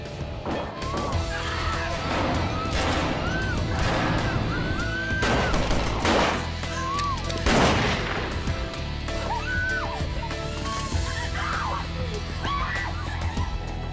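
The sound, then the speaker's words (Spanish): A few sharp gunshot bangs ring out inside the cabin of a hijacked airplane over a dense, steady roar of engine-like noise, with wavering cries and voices mixed into the chaotic background. “Dentro de la cabina, Rezaq oye disparos.”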